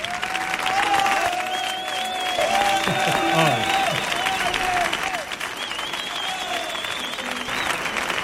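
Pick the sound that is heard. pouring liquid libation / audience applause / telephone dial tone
audience applause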